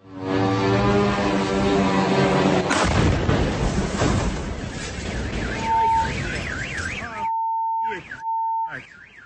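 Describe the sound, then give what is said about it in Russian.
In Voronezh, a drone's steady, harmonic buzzing drone is cut off by a loud, sharp explosion as it hits a residential multi-storey apartment building, followed by a rumbling roar. Car alarms then start wailing with rising and falling tones and a repeating beep. “Я начну с видео из Воронежа, где на этой неделе дрон попал в жилой многоэтажный дом.”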